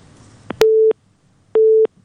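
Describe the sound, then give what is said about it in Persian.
Two steady beeps of a telephone busy tone after a listener's call to the radio call-in programme Women Leaders was cut off. Each beep is about a third of a second long, opens with a sharp click and is followed by a short silent gap. Fairly loud, with no voices. “خب تماس اینا قطع شده.”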